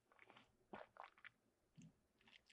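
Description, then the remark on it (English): Someone takes a drink of water, with a few soft, irregular gulping and swallowing sounds and small wet mouth noises, fairly quiet, and no talking. “I got to take another drink of water here.”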